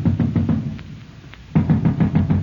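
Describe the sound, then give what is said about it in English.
Heavy, rapid pounding on a door by the king's watch, loud, in two bursts of repeated blows separated by a brief pause. No voices are heard. “The king's watch. They're at the door.”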